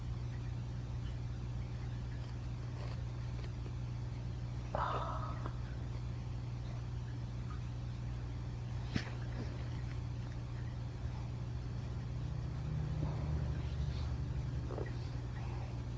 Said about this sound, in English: There's the car.